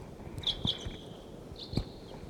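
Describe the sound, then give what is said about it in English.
Thin, high-pitched bird calls, sounding like type 6 calls, come in two short bursts, faint and drawn out slightly, over quiet background noise and a few low thumps; no one speaks. “No, these sound like 6s.”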